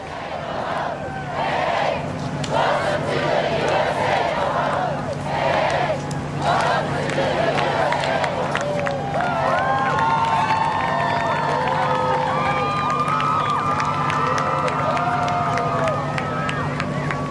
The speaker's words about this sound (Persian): تشویق برخی کسانی که برای استقبال از پاپ به این فرودگاه رفتن رو میشنوید که میگویند پاپ به ایالات متحده آمریکا خوش آمدید.